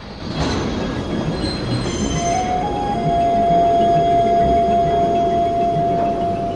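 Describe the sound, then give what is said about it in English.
A train grinds to a halt as the driver stops it, its wheels letting out a long, sustained metallic squeal over a low rumble, loud, with no voices. “The driver brings the train to a halt.”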